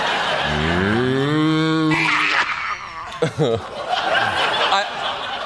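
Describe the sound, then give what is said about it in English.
A strained, drawn-out cow moo rises in pitch for about a second and a half, loud, then gives way to choppy, breathy vocal bursts. “Was that a cow being choked?”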